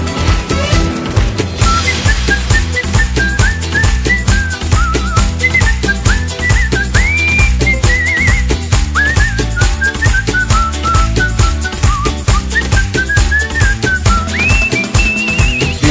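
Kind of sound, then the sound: human body sound, human whistling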